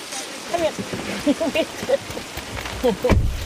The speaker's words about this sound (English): When the rain stopped, though, we took the opportunity and drove down there. The downpour came back as soon as we went outside.